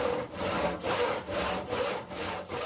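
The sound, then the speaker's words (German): A hand saw cuts through wood in the Würfelschmiede, a dice-making workshop, in steady back-and-forth strokes, about two per second, each a rasping, gritty scrape with brief pauses between. No one speaks. “Wenn man so eine Leiste da liegen sieht und sich denkt, okay, da brauche ich eigentlich nur ein Stück von abschneiden und hab den Würfel schon”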